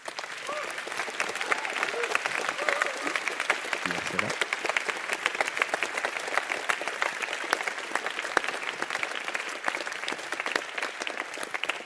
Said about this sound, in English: And finally, a huge thank you to all of you, the attendees. Without you, of course, this would not have been possible, so give a round of applause to yourselves for coming and for all that you contributed.